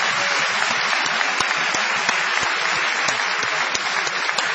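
Steady, dense applause from an audience, a continuous crackle of many hands clapping at an even loudness for several seconds, with no voices standing out.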